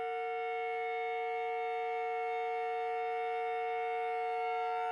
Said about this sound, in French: Alors que Jean commence à enregistrer cette bouilloire, il se rend compte que ce n'est pas du tout le son qu'il espérait.